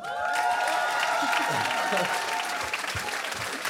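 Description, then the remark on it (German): Sustained audience applause, a dense, steady wash of clapping that stays loud throughout, with a few cheers and voices mixed into the crowd noise. “Der Applaus gehört euch, genießt ihn!”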